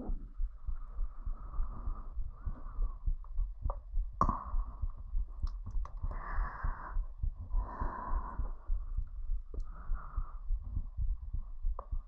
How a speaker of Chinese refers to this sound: 先搂着你，抱着你睡觉，好不好？想听见心跳声，好，搂着你。